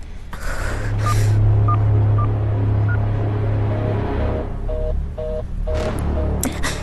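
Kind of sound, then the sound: signal or alarm, telephone dialing tones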